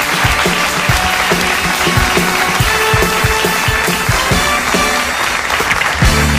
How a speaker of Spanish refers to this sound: Muchísimas gracias, amigos, por este regalo desde la Baviera. Un aplauso para Pollo Bavieres.